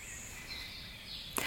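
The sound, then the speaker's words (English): A cricket chirps in steady, high-pitched trilling tones that run through the whole stretch, fairly faint, with a brief sharp click near the end and no voices. “Thank you, dear Cricket, that I can hear you right now.”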